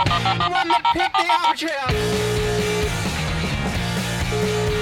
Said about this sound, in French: Ah putain, il est où ce téléphone à la con là?